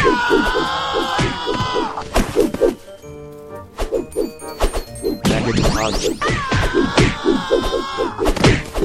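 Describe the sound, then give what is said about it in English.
A brief Wilhelm scream cries out in the middle of a busy stretch of smashing, thudding impacts, with music playing throughout and no voices speaking. “And you guys may have been able to catch that there is a Wilhelm scream in here somewhere.”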